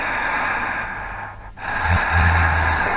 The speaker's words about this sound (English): Okay, first of all, this is labeled as just breathing, but the whole... he's breathing now, but he was going before.